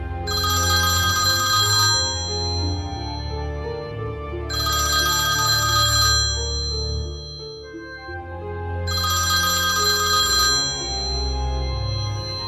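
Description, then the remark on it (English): A white telephone rings in three loud, evenly spaced bursts of about two seconds each, with pauses between them and a steady low hum underneath throughout. “No matter what they tried, the white phone kept ringing day and night.”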